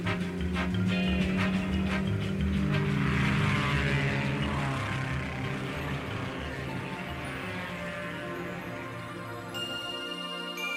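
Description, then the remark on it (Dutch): Aircraft engines rumble and whir into a loud, steady propeller drone that fills the whole stretch, constant, with a faint tinkling near the end. “Zo, als de motoren starten, dan hebben we weer een stipstijger van de vijfde naar de tweede plaats.”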